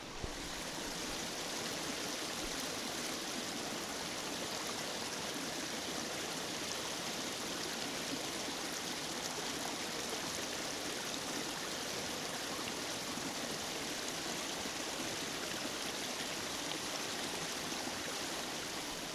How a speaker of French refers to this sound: Et nous sommes arrivés en Ardèche à Hâcon pour le festival Hâcon s'amuse bien. Et on est au bord de la rivière.